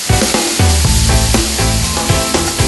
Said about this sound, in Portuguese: Esta não é uma cozinha qualquer. O balanço do navio ajuda a refogar a cebola.